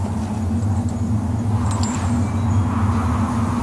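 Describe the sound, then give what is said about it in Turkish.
A steady, loud roar of sandstorm wind rushes without pause, thick with deep rumbling undertones and a grainy hiss on top, surging slightly but never letting up. “Kum fırtınası. Hemen bir yere sığınmalıyız.”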